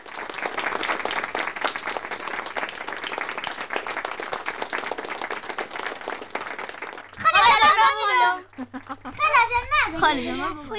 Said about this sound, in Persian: صدای چی بود؟ صدای دست زدن. آفرین. صدای چک چک کردن بود. درست است. چک چک کردن برای ورزشکاری که بر کشورشان افتخار می آفرینن